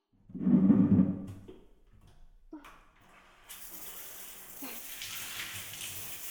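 After a short low rumble and a couple of soft knocks, a shower bursts on and keeps spraying with a steady, hissing rush until the end, rinsing off foam.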